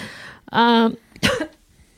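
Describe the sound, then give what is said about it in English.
Two loud coughs from a woman in quick succession: a drawn-out, harsh, voiced hack followed a moment later by a shorter, sharper burst, with nothing else around them. “Oh, that cough. I could take care of that with an essential oil made from oregano.”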